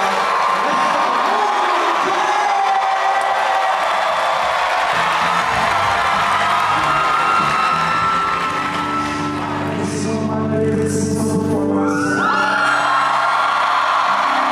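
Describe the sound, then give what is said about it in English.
A comedy-show audience claps and cheers loudly and continuously as a comedian is introduced, with whoops and yells rising over dense applause; toward the end, voices shout in sustained, tonal bellows above the clapping. “I need you to start clapping real loud and give me a favor.”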